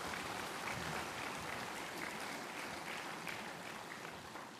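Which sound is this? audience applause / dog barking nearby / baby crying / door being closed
audience applause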